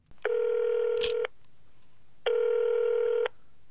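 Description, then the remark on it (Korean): A telephone ringing tone sounds twice as a North Korean defector in South Korea calls his future daughter-in-law: two steady one-second buzzing tones separated by a pause, with a brief click during the first, clear with no one talking. “예비 며느리와 전화 통화를 하는 탈북자”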